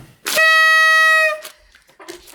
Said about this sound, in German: Und meine Tröte macht leider nur einen Ton. Das ist für mich die Akustik für Geburtstag.